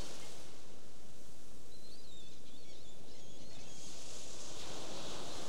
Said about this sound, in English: You hear the sound of the background waves.